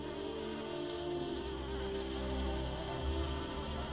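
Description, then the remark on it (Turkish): A male bee buzzes steadily around an orchid, a continuous droning hum that swells slightly as it moves around, with no voices present. “Erkek arı için buraya konmak çok zordur.”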